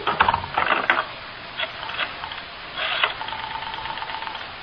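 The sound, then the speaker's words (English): A telephone is dialed to place a long-distance call to Los Angeles, with a series of quick mechanical ratcheting clicks and whirs as the dial spins and returns, several turns in a row, then a faint steady hum. No one speaks. “Crystal, can I call L.A. on this phone here?”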